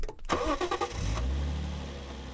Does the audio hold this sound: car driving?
yes